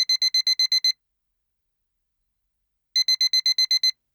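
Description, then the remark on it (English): An alarm clock bleeps at 7:30 a.m. in two quick bursts of about eight rapid electronic beeps each, separated by a couple seconds of silence; clear and fairly loud. “7:30 a.m. The alarm bleeped and Rose rolled out of bed to begin her Saturday shift.”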